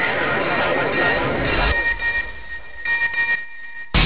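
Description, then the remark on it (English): An SMS message alert tone in a radio advert for Crimeline's anonymous SMS crime tip-off service: a few short, bright electronic beeps at a steady high pitch, following a burst of rough, noisy sound, and ending abruptly. “Thanks to Crimeline, there's a sound criminals fear more than the sound of sirens.”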